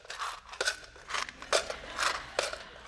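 Someone at home rummages through drawers: a quick series of scraping, clattering and rustling bursts, roughly every half second, with no talking.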